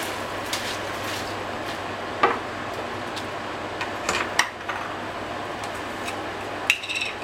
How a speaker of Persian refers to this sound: خب عزیزان آب جوش اومده همونطور که توجه میکنید و من میخوام الان بهش برنج رو اضافه کنم. آب برنج رو خالی کردم چون آب اگه سرد باشه باعث میشه که آب جوش ما از جوش بیفته و برنج خمیر بشه.